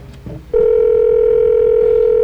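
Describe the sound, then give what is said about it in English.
A telephone line ringing through to a house in Knoxville, Tennessee: after a short burst of muffled noise, a loud, steady electronic ring tone sounds over the line and holds unbroken until the end. “Phone's ringing in Knoxville, Tennessee”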